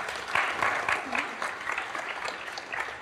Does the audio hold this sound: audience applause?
yes